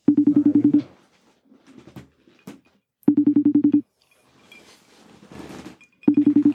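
A phone line ringing on a repeated outgoing call: three buzzy, pulsing ring tones repeat about every three seconds, loud, with faint rustles and small clicks in the quiet gaps.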